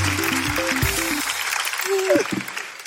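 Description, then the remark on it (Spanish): A steady wash of clapping for a friend runs through the whole clip, with voices calling out and talking over it, one rising and falling in pitch. “Un aplauso para mi buen amigo, por favor.”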